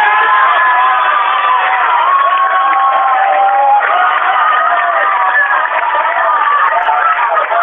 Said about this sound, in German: So, und jetzt ist das Spiel abpfiffen. Das sieht man, ein riesen Jubel da